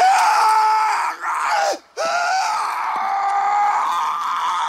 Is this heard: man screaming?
yes